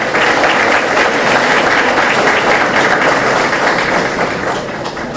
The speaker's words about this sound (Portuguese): Uma salva de palmas para ambos.